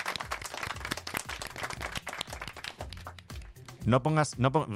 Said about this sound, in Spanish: Está poniendo cara como de así, de timidez, de no me merezco estos aplausos, no, por favor.